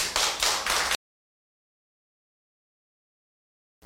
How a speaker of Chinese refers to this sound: 我们鼓掌欢迎他。